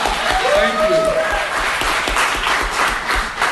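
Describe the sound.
A crowd claps steadily and loudly, a dense wash of applause that fills the room, with a few voices cheering and whooping over it early on.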